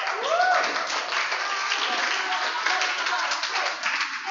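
A crowd breaks into steady, dense applause that holds at an even level for several seconds, with a brief rising whoop from someone near the start.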